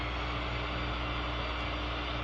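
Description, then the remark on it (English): A voice imitates an electric drill with a continuous, loud, steady whirring drone and a low buzzing hum beneath it, holding level for the whole couple of seconds without words. “Just stand up and make the drill go around and around, and I'll make some drilling kinds of noises. That's an electric drill, isn't it?”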